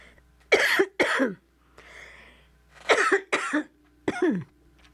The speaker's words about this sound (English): I'm coughing.